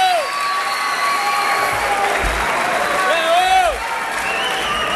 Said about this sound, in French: Et voilà, sous les applaudissements, vous écoutez bien.